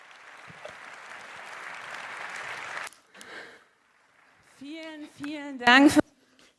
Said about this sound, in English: Many, many thanks for this amazing talk. Please give a huge applause.